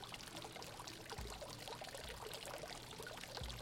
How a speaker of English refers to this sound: After 24 hours of wading through the swamp, she heard a sound. That's the sound she heard. Water.